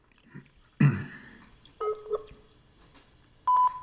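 Electronic answering-machine beep tones: a short two-pitched beep, then a steadier high beep a moment later, preceded by a dull clunk. No voices are heard.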